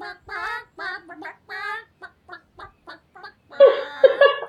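Chicken clucks arranged into a rhythmic, tune-like run of short pitched bursts imitating a pop song, ending in a louder, denser cluster of squawking clucks, with no talking.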